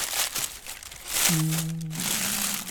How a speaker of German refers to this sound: Warte mal, ich pack das mal aus. Ja, mach mal. Also, hier, so, das ist also das Schaf, der Esel. Hier ist das Jesuskind, die Krippe.